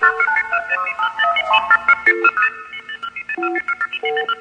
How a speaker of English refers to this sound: calling Ben up and not only MFing tones in his ear, but making various call attempts